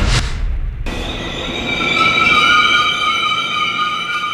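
A train rumbles along as its wheels let out a sustained, high-pitched metallic squeal with several shrill tones, starting after a brief burst of noise and holding steady and loud to the end.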